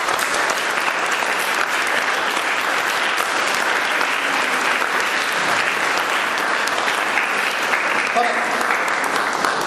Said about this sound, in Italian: se era possibile segnalare con un bel applauso due persone che gli avrebbe fatto piacere essere qui stasera. Uno è Glauco Artioli e Davide Gelmini, che sono due ex musicisti della banda che sono scomparsi troppo presto. Volevo fare un applauso.